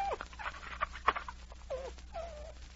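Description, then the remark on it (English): A dog, Thunder, whimpers goodbye in the snow in a series of short, high whines that end in a longer, wavering cry, heard alone with no talking over it. “He has just enough dog in him to be gentleman enough to say goodbye.”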